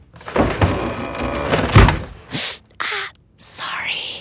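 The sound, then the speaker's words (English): Drawers and closet doors bang shut amid rummaging as a woman gets dressed for an early meeting, with one loud, heavy thud, followed by several short breathy bursts of noise, like hurried sliding or hushed whispering. “Take this moment of a woman getting dressed for an early meeting while her husband's still asleep.”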